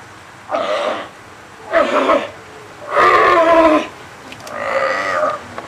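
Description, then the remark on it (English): Four loud, hoarse honking calls from seals and sea lions housed in individual chain link pens with small concrete pools at the Marine Mammal Center in the Marin Headlands, California, on a sunny day; each call lasts about a second with short pauses between, with no talking. “Seals and sea lions are housed here, one, two, or three at a time, in individual chain link enclosures, each one containing its own small concrete pool.”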